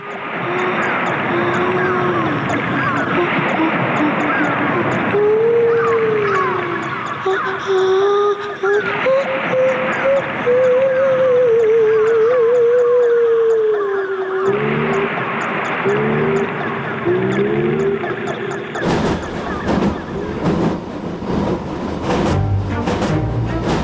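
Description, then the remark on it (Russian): A radio art piece: gliding, moaning whale-like calls mixed with cat and dolphin cries drift over a dense droning electronic bed, loud and continuous, before giving way to harsh, crackling bursts of noise near the end. “С тех пор космос заселен котиками, китиками и дельфинами.”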